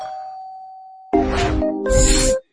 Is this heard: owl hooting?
no